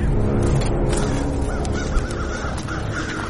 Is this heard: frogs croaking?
no